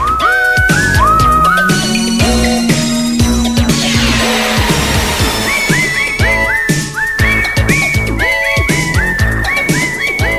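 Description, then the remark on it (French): Someone whistles a bright melody of gliding notes over full, loud instrumental backing, the tune returning in short repeated phrases throughout. “Mais non, fuck off, esti, m'a sifflé tout le long.”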